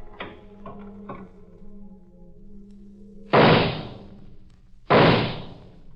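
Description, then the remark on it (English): A door in a house is opened with a few quick latch clicks over a low hum, followed by two loud, heavy bangs about a second and a half apart. No voices. “Then I opened the door.”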